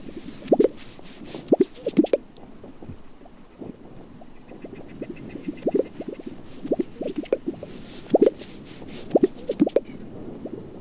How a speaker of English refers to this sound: So a fantastic sound. That's the Gunnison sage grouse? It is, yeah.